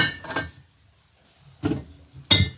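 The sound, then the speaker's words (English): Glass bottles clink and rattle in three separate bursts, with a short, bright ring after each knock and quiet gaps between, as someone indecisively rummages through a fridge for a bottle of beer. “Yeah, that's definitely like a indecisively looking through the fridge noises.”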